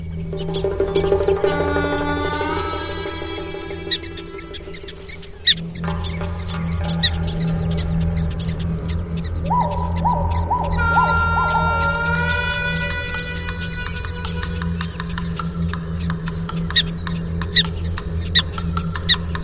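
Prairie dogs give a rapid series of shrill, chirping alarm calls, several voices overlapping in quick bursts, over a steady low background rumble with no talking; an adult raises the alarm on sighting a predator, a coyote.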